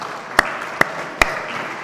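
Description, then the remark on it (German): Applause for all the staff of the house: a steady hiss of many clapping hands, with three sharp, louder claps standing out at even intervals. No one speaks. “Dafür einen ganz großen Applaus allen Mitarbeiterinnen des Hauses.”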